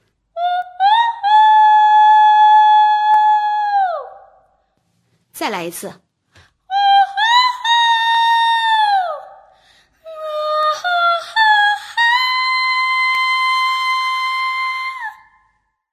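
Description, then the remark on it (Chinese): A high falsetto voice imitates a rooster's crow three times as a singing exercise for finding falsetto high notes, each call held steady and loud before sliding down at the end, with a short spoken phrase between the first two. “我告诉你一个小妙招，你要学习公鸡打鸣，就可以唱出假声的高音了。”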